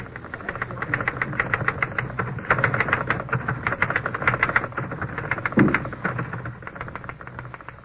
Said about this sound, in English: The race between the tapping of the typewriter keys and the ticking of the red second hand on the clock began.